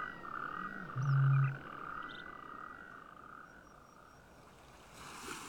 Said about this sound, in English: with the voices of nightingale, nightjar, bittern and stone curlew, joined by the rasping cries of natterjack toad. Each voice a triumph for conservation.